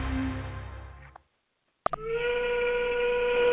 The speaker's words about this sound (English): All too often these days, the factory whistle is falling silent in America.